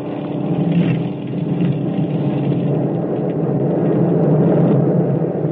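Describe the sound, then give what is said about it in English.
A steady, loud engine drone fills the whole stretch, a dense low rumble with a constant hum and no pauses, like propeller aircraft engines running. “Suddenly, there was nothing but the sound of our own engines.”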